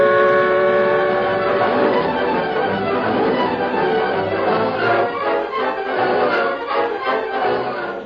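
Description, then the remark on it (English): A steam train rumbles along at speed, pulling ahead on its way to Dry Creek, its whistle sounding loud and sustained at first before fading into the steady, rhythmic chugging and clatter of the moving engine. “We're pulling ahead now, Tonto. Train go plenty fast.”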